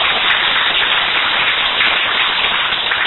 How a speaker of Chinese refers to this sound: 所以这个值得鼓励哈、哦。我们大家，请大家为自己鼓掌加油，好吗？